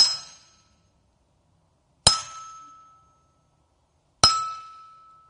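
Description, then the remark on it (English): Three sharp, loud metallic clanks of iron striking iron as iron is sharpened against iron, about two seconds apart. Each leaves a bright ringing tone that fades out before the next hit. No one speaks. “Iron sharpening iron. Kind of loud. Over and over.”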